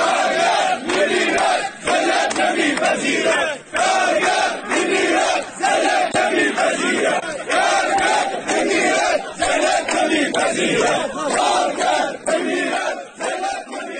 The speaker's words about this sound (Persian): کارگران اعتصابی همچنین با سردادن شعارهایی به وضعیت قراردادهای کار، دستمزد پایین و عملکرد مدیریت شرکت اعتراض کردند